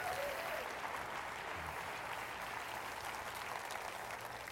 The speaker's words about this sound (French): J'aimerais vous déclarer, dans toutes les sphères de nos vies, il est encore le Seigneur qui guérit. Quelqu'un devrait applaudir le Dieu qui guérit.